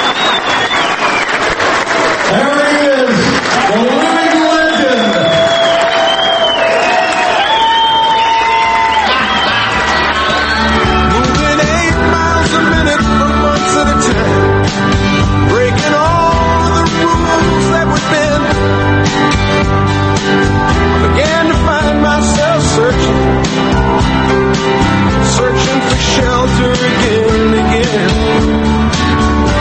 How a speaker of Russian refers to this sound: Но когда Спартак спускается на землю и идет к трибуне получать свой приз, видно, что стать уже не та, он сутулится и чуть подволакивает ноги. Ну, черт возьми, вот эта овация в его честь.